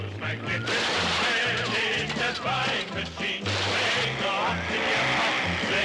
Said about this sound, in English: Do you remember these sounds? That's Pac-Man, one of the most popular video games of the 80s. Pac-Man was released on this day in 1980.